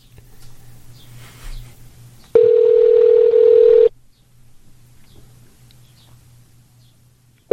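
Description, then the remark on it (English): A telephone ringback tone sounds over the line after a number is dialled: one loud, steady electronic tone lasting over a second, then a long quiet pause with faint background hum before the next ring begins. The call reaches the City of Palos Heights office line. “So I'm going to dial the number now.”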